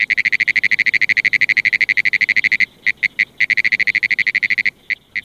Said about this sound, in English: The sound of the Pinewoods tree frog resembles a ticker tape machine, a riveting machine, or someone tapping at a telegraph key. It's very distinctive and easy to hear over quite a distance.